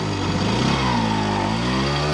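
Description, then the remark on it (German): An old Bulldog tractor engine sputters to life and settles into a loud, steady, low chugging rumble, with no voices over it. “Bulldog springt an.”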